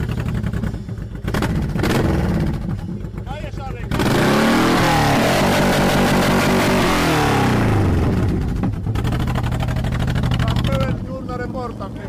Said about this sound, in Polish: Co to było? Co to był za motor? To był VTX 1800 Honda. VTX 1800.